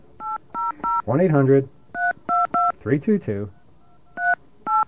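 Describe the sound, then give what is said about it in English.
A string of touch-tone beeps as the phone number of a Bell Atlantic information line is dialed, short dual-pitched tones in quick bursts, with a person talking briefly between groups of digits. “I called the right number.”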